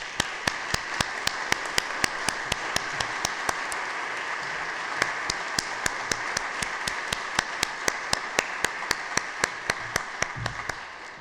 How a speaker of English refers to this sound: could all stand for a moment and we could give them a round of applause.